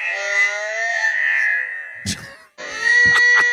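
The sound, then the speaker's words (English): A horse's neigh played back slowed down: a long, drawn-out, wavering tone with rich harmonics, broken by a couple of short breathy bursts and a brief gap before it resumes. “That's your horse. That's a long neigh.”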